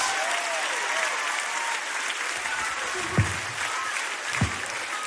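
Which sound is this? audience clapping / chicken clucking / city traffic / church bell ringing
audience clapping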